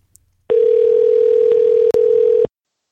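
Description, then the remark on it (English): A single steady electronic ring tone of an outgoing phone call sounds for about two seconds, loud, with a faint click partway through, then silence. “and rather than read you his email, I just called him because it was that captivating. So I'm just going to play you this phone call.”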